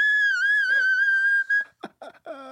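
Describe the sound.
A high, steady whistling tone made with the voice, an attempt at a singer's whistle tone that sounds like a tea kettle, holds loud for about a second and a half, then gives way to a few short, choppy vocal sounds.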